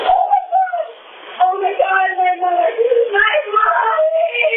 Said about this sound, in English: It is then she lets loose a cry of pure anguish.